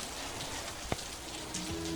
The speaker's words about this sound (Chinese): 今天怎么又下雨啦？